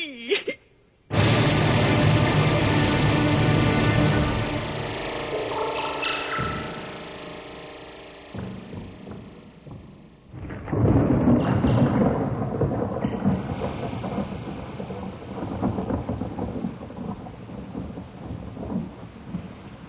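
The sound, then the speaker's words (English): Heavy rain pours steadily while thunder rolls and rumbles loudly, with a second deep crash of thunder swelling midway before the downpour continues alone. “How long have I been lying here? Listening to the rain.”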